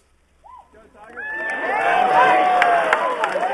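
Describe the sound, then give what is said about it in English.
An outdoor golf crowd at the Masters at Augusta National cheers Tiger Woods as he smiles and waves before his opening drive, starting with a few scattered whoops that swell after a second into a sustained, loud roar of shouting and cheering voices that lasts to the end. “That's when Tiger Woods, after smiling and waving to a cheering crowd, did what he's always done best.”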